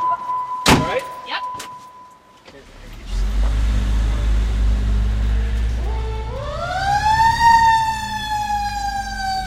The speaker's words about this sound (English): It's so loud inside the truck that the guys wear these headphones as if they're in a helicopter to talk to each other